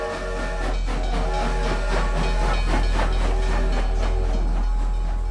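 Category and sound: vehicle, train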